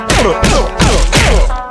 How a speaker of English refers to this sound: Reno lurched to his feet. Smoke rained punches to his face.